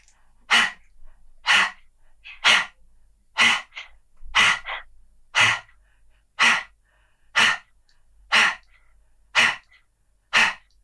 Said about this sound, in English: What we're going to do now is you're going to continue with the breathing, but I just want to see how he responds to that breath of fire when you're breathing.